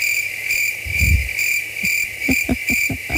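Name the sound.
cricket chirping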